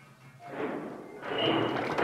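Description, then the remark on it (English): A heavy, muffled thud rumbles through the plumbing of an old house as the water is turned on, followed by a steady rushing, hissing surge of water that grows louder and continues to the end. No one speaks. “What the hell was that? All I did was turn on the water.”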